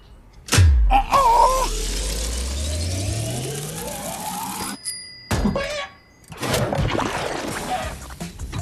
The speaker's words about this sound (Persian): صداشو شنیدی؟ صدای جلس بلس کردنش. بوشو حس کنید.